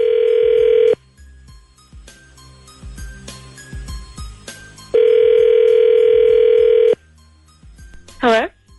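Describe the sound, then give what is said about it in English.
A telephone call placed by the Z Morning Zoo radio show on Z104 rings out on the line, with two long, steady buzzing ring tones separated by a few seconds of low background noise, followed by a short rising chirp at the end. “We'll call her and we'll find out the truth when we come back.”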